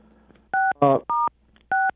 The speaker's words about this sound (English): I can, but I hear a lot of people pushing buttons on their phone. Okay, yeah, I was unmuting myself.